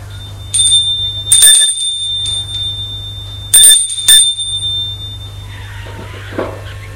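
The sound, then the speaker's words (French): An apartment doorbell rings at an apartment door with no name on it, a sustained, high metallic tone lasting several seconds, broken by three loud, sharp bursts, over a low steady hum. Then the ringing fades and no one speaks. “Malgré tout, il sonne à l'appartement.”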